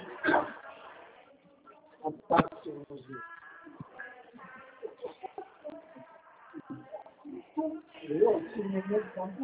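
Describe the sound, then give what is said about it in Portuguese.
A dog lets out a few sharp barks, spaced apart, mixed in with people talking; some higher whining or yipping sounds are scattered between the barks. “Gente, o cachorro aí, pega esse cachorro aí, pega.”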